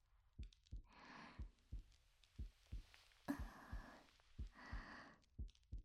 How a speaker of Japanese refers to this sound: ねえ、私の心臓の音、聞こえる？笑わないでよ。私もね、すっごく興奮したから、バクバクするの止まらなくて。